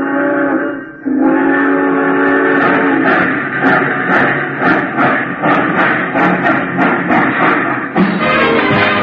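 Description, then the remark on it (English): A passenger train's whistle blows long and loud, then steady rhythmic chugging builds as the locomotive pulls away bound for Chicago, prominent with no voices. “All passengers taking the Chief to Chicago, please walk on tiptoes as you board the train.”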